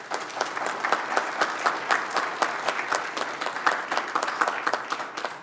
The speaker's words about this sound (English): And I think that Swedesburg deserves a great round of applause tonight for the work that they did in putting that together last night.